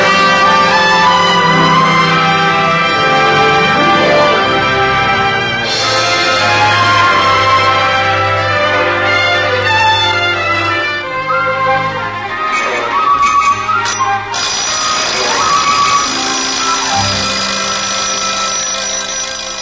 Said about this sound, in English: It's that silly alarm clock again, Mom. I'll turn it off. I thought I didn't hear it go off this morning. It was set for 5:30 a.m., and here it is going off at 7:30.